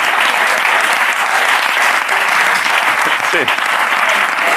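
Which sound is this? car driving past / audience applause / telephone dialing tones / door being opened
audience applause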